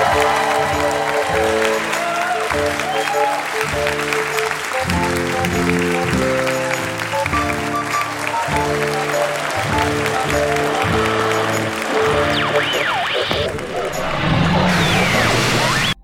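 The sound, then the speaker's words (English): Audience applause at the end of a show: steady crowd applause runs under loud, rhythmic music with repeating chords, then the music drops away near the end, leaving a brief burst of clapping and cheering on its own. “Was that What a Wonderful Performance applause, or This Ordeal Has Finally Ended applause?”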